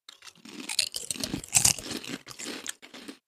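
Crisp, repeated crunching of flat, thinly rolled onion-flavored chips, like Pringles Sour Cream and Onion, being chewed, with irregular bursts of bright crackly noise across a few seconds and no talking.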